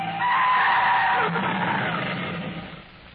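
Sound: car tires skidding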